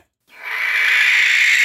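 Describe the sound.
After a brief silence, a voice lets out a loud, sustained, raspy screech imitating a hawk's scream, rising quickly and holding steady at full strength, with no other sounds.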